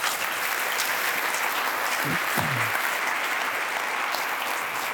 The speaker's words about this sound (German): Und ja, ich würde sagen, wir verabschieden uns jetzt nochmal mit einem grossen Applaus.